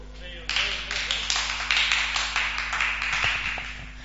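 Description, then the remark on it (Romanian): A crowd breaks into steady applause, many hands clapping in a dense, continuous patter that holds at an even level for several seconds, with a low constant hum beneath it. “Acum haideți să-l aplaudăm!”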